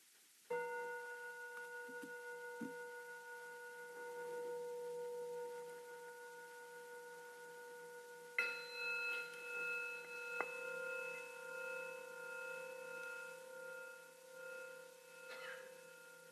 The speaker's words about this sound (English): And there are the sound of the bells.